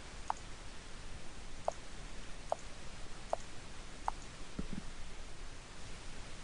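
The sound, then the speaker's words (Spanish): Five or six soft, crisp computer mouse clicks tap out at irregular intervals against a faint steady hiss, quiet, with no one speaking, as the mouse is used to operate an emulated touch keyboard. “Aquí también estamos viendo la emulación del teclado, que es táctil, touch, y lo estamos haciendo a través de nuestro mouse.”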